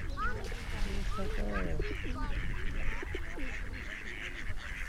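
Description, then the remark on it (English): Geese honk repeatedly in a loose cluster of nasal calls over steady outdoor background noise and murmuring voices. “Yeah, you don't want to go near a goose.”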